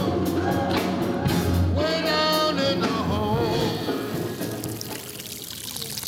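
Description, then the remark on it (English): Water gushes steadily from a half-opened, leaking fire hydrant outside a rehearsal hall, with a bucket set down to catch the drops and rows of tents around it; a continuous loud pouring with ringing, pitch-shifting tones through it, easing off slightly toward the end. “Outside the rehearsal hall, a half-opened fire hydrant is leaking.”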